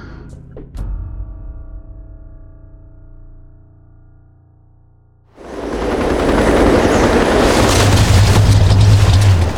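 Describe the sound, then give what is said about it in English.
A small autogyro's engine drones steadily at first, then swells abruptly into a loud, rushing roar as the aircraft passes overhead, with no voices. “That is one darling little helicopter.”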